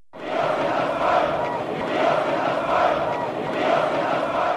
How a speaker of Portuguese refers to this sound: Nós somos o povo, gritavam os manifestantes. Com velas e faixas nas mãos, a população exigia seus direitos.